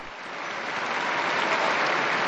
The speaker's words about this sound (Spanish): Un aplauso a las nuevas beatas.